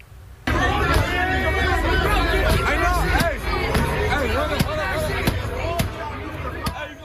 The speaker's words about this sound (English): This is at the intersection of Central and Alondra. A huge crowd taking part in a sideshow turned on a nearby gas station, smashing windows and doors until they got in and then looted the place.